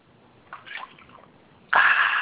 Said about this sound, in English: Hold on 1 second, I drink some water. Okay, go drink some water.